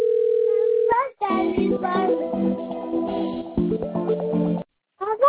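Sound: telephone ringing tone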